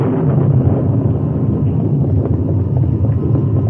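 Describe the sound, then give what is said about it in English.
A loud, deep rumble of thunder following a lightning flash at sundown, with clouded sky and rising wind, rolls on steadily for several seconds, heavy in the low end with a rough, churning texture and no voices. “The rain held off, but there was an occasional lightning flash and its answering thunder.”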